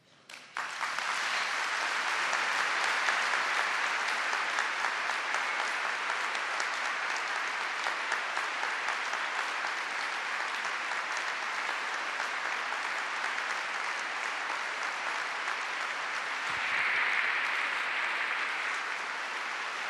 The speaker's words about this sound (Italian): Avete sentito quanto è lungo questo applauso al termine della catechesi di quest'oggi, mercoledì 13 febbraio 2013, la catechesi di Benedetto XVI, è la penultima udienza generale